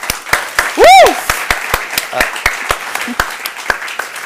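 Audience applause welcoming a guest at an introductory talk of the Sommerspiele Melk theatre festival, with sharp, evenly spaced claps of moderate loudness, plus a brief rising-and-falling whistle near the start cutting through the clapping.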